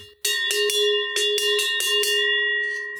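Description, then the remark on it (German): A large cowbell, called a Schelle in the Allgäu, clangs repeatedly in an uneven swinging rhythm, each loud strike ringing on with a bright metallic tone that lingers and fades at the end. No voices. “Aber es heißt nicht Glocke, es heißt Schelle.”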